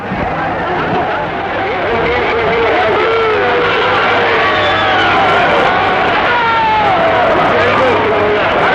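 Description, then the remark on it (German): A large crowd of demonstrators in West Berlin shouting and jeering in a steady, loud roar of overlapping voices, with rising and falling yells breaking through the dense babble throughout. “They were able to cope this time, but will they always be able to keep such demonstrations in check?”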